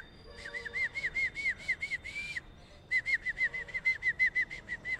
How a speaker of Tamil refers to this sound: கிளியம்மா கிளி கிளி கிளி போன்ல கிளி கத்துது.